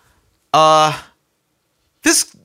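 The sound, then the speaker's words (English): A single sneeze: a loud, drawn-out voiced intake followed after a short pause by a sharp, hissy burst, with no talking around it. “Bless you”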